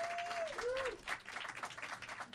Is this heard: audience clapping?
yes